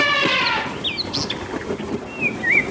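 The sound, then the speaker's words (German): Birds chirp and whistle in quick, overlapping calls, with a flurry of wings flapping and a rustling bustle underneath, no voices present. “Die Vögel”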